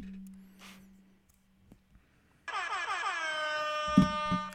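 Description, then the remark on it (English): A loud, sustained air horn blast bursts in after a quiet stretch of low hum and faint rustling, holding a steady blaring tone for about two seconds, with a couple of soft thumps near the end. “He's a sprightly young bird, but he was bitten by a radioactive air horn.”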